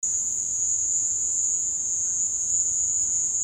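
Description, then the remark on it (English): A cricket recording, played by Fernando through a loudspeaker inside a room to capture the echoes, gives a continuous, high-pitched trill with an echoing, roomy quality. It stays steady and fairly loud throughout, with no voices. “Fernando took some recordings that he had of crickets and played them over a loudspeaker inside a room so he could capture the echoes.”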